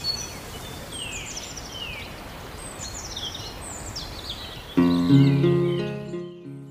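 Birds chirp in a few bright, downward-sweeping bursts over a steady hiss of background noise, before a louder tonal musical passage suddenly takes over near the end.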